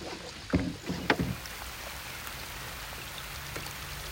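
Oars dip and pull through water, with a few sharp splashing strokes early on, then a steady low wash of water against the hull and faint drips. No one speaks.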